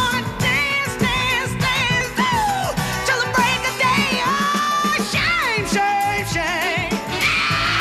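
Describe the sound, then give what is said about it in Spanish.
A concert audience screams and cheers nonstop as two singers dressed alike come on stage, one imitating the other, a dense wall of high, wavering shrieks and whoops that stays loud for the whole stretch without letting up. “después oiréis al público a gritar porque la que viene gritando detrás, imitándola,”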